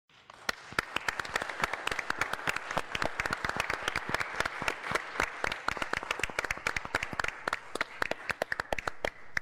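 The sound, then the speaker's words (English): An audience applauds warmly to welcome new members after baptism, dozens of hands clapping in a dense, steady patter that swells quickly and holds for several seconds, with no talking over it. “Then let us welcome our new siblings in faith with applause.”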